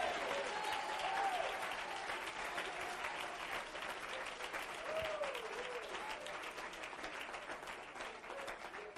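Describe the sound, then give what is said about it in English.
An audience claps steadily in praise of God, a dense, continuous wash of applause with faint voices rising and falling underneath for the whole stretch. “My God, clap your hands, lift your voice, magnify him.”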